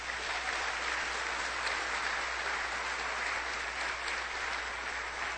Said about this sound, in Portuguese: Quem pode aplaudir o Senhor Jesus?